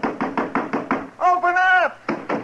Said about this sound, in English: Go ahead and knock. Anybody in there?